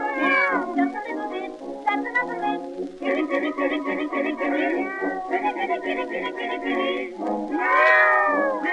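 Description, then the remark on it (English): Drawn-out, wavering cat meows and caterwauls repeat almost without pause over a dense, tinny recording, a novelty record made by Victor in 1914, loud and up front, with sliding pitches rising and falling throughout. “That's a ….”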